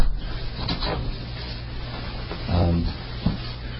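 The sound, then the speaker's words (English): A door is pushed shut: a brief scraping swing followed by a soft, muffled thud as it settles, against a low steady hum. “Can you close the door the rest of the way?”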